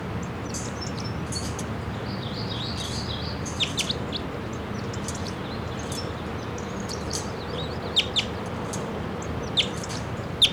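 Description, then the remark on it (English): A wild male bird, about 20 feet up, sings short, high chirping song phrases, repeated several times with brief pauses, over a steady low background rumble; a few sharper notes stand out toward the end. “Here comes in one bird, pointing at it, that's not calling. So, here kind of hears that bird.”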